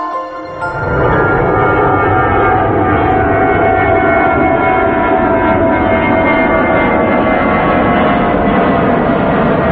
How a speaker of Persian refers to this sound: صدای این جت رو میشنوی. این سرعت ساخت ایران تو سال 57 بوده. بله جت میره بله اینطوری میخوره تو کوه دیگه.